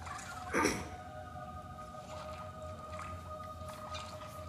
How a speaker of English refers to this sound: Is that the Ghost Leviathan? Or is that just some completely ridiculous roar?